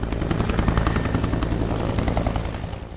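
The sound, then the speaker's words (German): A helicopter roars on the deck of a 244-metre Italian Navy aircraft carrier, its rotor blades beating a rapid, steady thumping chop over a heavy engine drone that stays loud and constant throughout, with no voices. “Ein riesiges graues Militärschiff, 244 Meter lang, 14 Decks hoch, mit einer Landebahn für senkrecht startende Düsenjets und Hubschrauber.”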